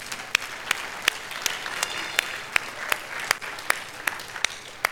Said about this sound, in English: And let's all clap our hands to our Heavenly Father. Secondly, let's clap our hands to our earthly fathers.